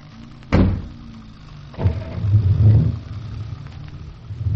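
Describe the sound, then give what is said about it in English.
A car door thuds shut with a sharp bang, then a second knock, before a low car engine rumbles up and keeps running as the vehicle drives off to follow a man in another car. No one speaks. “He's getting into a car. So are we, and we are following him. Get in, and off we go.”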